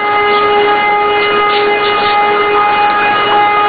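A loud siren sounds continuously above the town of North Kosovska Mitrovica, holding a steady, unbroken tone with a slight warble throughout, heard on its own without any voices.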